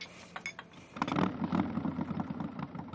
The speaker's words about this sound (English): She watches Alec drive away on his motorcycle